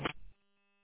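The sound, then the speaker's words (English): A short burst of static from a radio transmission crackles up, then cuts off, leaving a faint, steady electrical hum droning quietly underneath with no voices. “I only caught about the last quarter of that transmission.”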